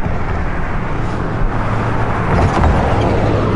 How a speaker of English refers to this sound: Christ, it's fucking 4 a.m. Traffic, leave me alone. I'm trying to be melodramatic here. Gotta get off this fucking street. This street is such a nightmare during the day, like... I mean, I guess as evidenced by the fact that even at 4 a.m, cars keep